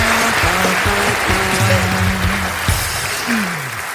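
An audience at a Hablando Huevadas show applauds a fan loudly and steadily for several seconds, a dense wash of clapping with scattered voices calling out and cheering over it, fading slightly toward the end.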